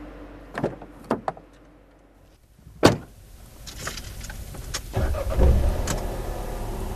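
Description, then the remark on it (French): Car sounds as people get in to drive to Vatry airport, about fifty minutes away: a few sharp clicks and door-handle clunks, a loud door slam, then rustling and an engine turning over into a low, steady idle. “Donc on va prendre la voiture pour aller jusqu'à l'aéroport de Vatry.”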